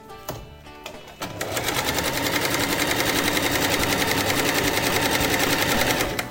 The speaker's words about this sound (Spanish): Quiero irte, nos vamos escuchando esa música que es escuchar la máquina de coser. Vamos a escuchar la máquina de coser.